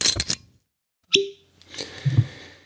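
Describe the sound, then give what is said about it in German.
A cork is pulled from a bottle of Highland Park 12-year-old Scotch whisky from the Orkney Islands with a single sharp, hollow pop and a brief low ring, framed by soft rustling and handling noises before and after. “Bei mir gibt es einen Korken im Gegensatz zu dir.”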